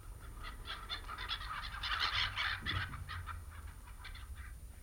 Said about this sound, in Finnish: Kuuntelin lokkien huutoja ja liikenteen yksitoikkoista hälinää.